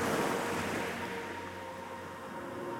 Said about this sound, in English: Now that your breathing is in rhythm with the waves, imagine opening your arms and receiving all the beauty, power, and energy the ocean has for you.